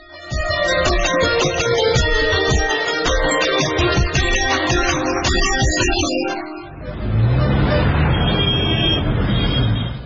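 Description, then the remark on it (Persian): A motorcycle engine rumbles amid busy street traffic, loud and steady, then gives way to a broad roar of passing vehicles, with people's voices murmuring in the background. “ای موتورسیکل والا استاد باش، نشان بده که دخلتی چیست.”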